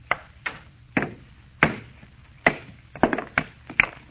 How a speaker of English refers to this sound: All I'm going to do is try and break it along this fissure. You had a hammer and a stone. Yeah. What if the stone break? Almost solid metal. I'll try.